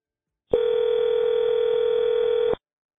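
A steady telephone dial tone hums continuously for about two seconds, then cuts off abruptly; no voices accompany it. It comes from a phone call being placed to contacts in the Dixon area.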